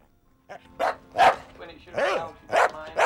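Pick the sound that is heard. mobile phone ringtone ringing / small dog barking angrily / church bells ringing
small dog barking angrily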